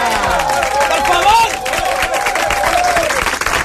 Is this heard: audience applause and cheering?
yes